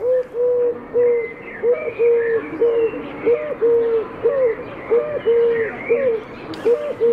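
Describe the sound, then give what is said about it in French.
A dove coos in a steady, repeating rhythm of soft, low hooting notes, resembling a wood pigeon but slightly slower and with a different rhythm, with fainter birdsong chattering in the background. “elle a un chant qui est un tout petit peu différent, qui ressemble un peu au pigeon ramier, mais vous enlevez le...”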